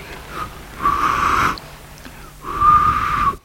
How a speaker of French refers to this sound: L'homme siffle entre ses doigts.